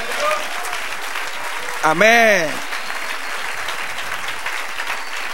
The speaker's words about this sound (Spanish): Dale otro aplauso.